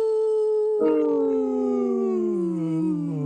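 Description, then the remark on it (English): A person imitates a wolf howl: one long, loud, steady vocal tone that swells partway through, then slides slowly downward in pitch across about three seconds, with no talking. “The howl, you mean?”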